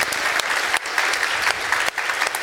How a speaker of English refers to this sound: And without the volunteers, we could not do this conference. So big applause to those.